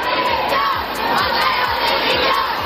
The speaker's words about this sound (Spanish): Y en este contexto, en la manifestación convocada por el movimiento feminista en Madrid por el Día contra la Violencia de Género, se han escuchado gritos de Montero dimisión.